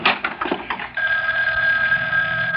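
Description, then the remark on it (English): A telephone bell rings early in the morning with a rapid metallic clatter that settles into a steady, sustained high-pitched ring, fairly loud and with no voices over it. “Whoever it is can call back no, later.”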